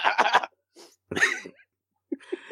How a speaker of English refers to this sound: So anyway, so he's coming down with something. I was like, oh God, see the sickness. Every time he coughs.